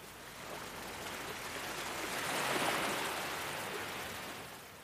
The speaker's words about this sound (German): Eine sanfte Welle rollt heran und umspült deine Füße.